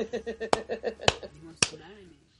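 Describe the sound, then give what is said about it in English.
Three sharp, loud hand claps land at a steady pace about half a second apart while a voice keeps talking rhythmically underneath, then the sound trails off into quiet. “Come on, guys! Clap!”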